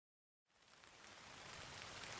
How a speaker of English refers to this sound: Oh no, it's raining. We can't go on our picnic.